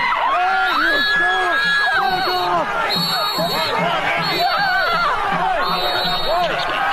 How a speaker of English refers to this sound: You know, police are trying to move them out, and then they fall on the ground, and they start screeching and free Palestine and so on and so forth.